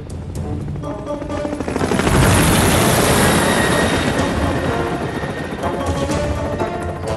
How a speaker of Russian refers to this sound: Однажды вертолет «Гарольд» спасал альпинистов неподалеку от замка Каллан.